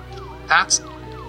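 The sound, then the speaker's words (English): An ambulance siren wails steadily, its tone sweeping up and down, while a brief burst of voice cuts in over it. “That's an ambulance, not a patrol car.”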